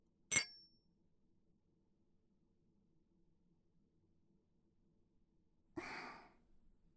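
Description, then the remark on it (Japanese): Glasses clink together once in a toast, a bright, short ring, followed after a long quiet pause by a satisfied breathy sigh. “では、乾杯。”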